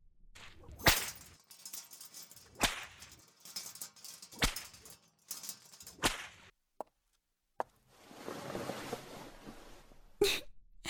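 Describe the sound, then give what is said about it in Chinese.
A whip swung and cracked repeatedly: five sharp, loud snaps spaced roughly a couple of seconds apart, with swishing and a stretch of hissy rustle between the later strikes. “怎么样，我的鞭子挥得还可以吧？”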